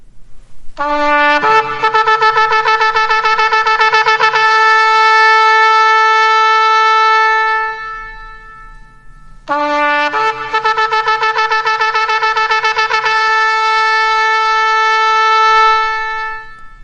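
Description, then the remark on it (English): A shofar sounds the teruah, a bright, buzzing horn blown in rapid staccato bursts. Two long runs of quick pulsing blasts are separated by a short pause, loud and with no talking. “That is defined as you heard, nine rapid staccato blast, usually interpreted as a battle cry or alarm.”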